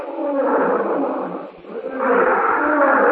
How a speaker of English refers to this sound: Roar